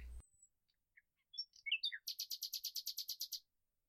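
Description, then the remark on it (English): A bird sings a short phrase of varied whistled notes, then a rapid, even trill of about a dozen bright, high-pitched chirps, with no talking over it. “Come back to God's beautiful kingdom, where the birds are singing and the puffy white clouds are floating overhead.”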